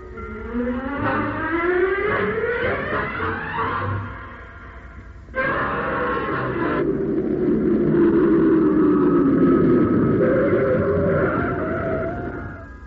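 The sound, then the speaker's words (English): A car engine revs up with a rising whine, cuts out briefly, then roars back and keeps running steadily and loudly, as if the car is driving along. “Ditch this car, Will.”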